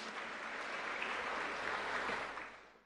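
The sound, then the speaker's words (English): An audience claps steadily for nearly three seconds for an attendee who bought the first ticket for the Muslimah event; a dense, even patter of many hands holds at moderate loudness and then tapers off at the end. “Please give her a round of applause because we are a very last-minute community.”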